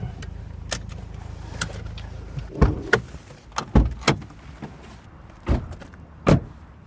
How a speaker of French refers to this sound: Et voilà. Voilà le bus.